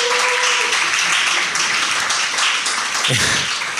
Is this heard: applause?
yes